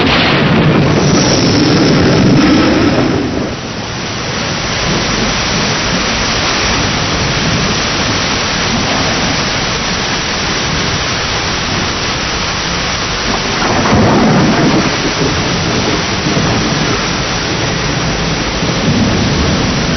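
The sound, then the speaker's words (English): Heavy rain pours down in a dense, continuous, loud roar, with deep rolls of thunder swelling near the start and again partway through. No voices. “Nothing can stop us now except rain.”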